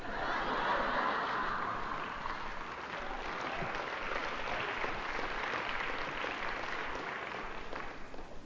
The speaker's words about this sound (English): By the way, that applause was for the angel, not for me.